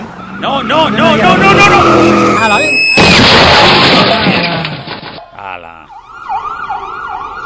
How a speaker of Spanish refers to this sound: Vamos a ver, van a intentar aparcar. Vale, el problema es el frenado. Cuidado. Ahí. Bien.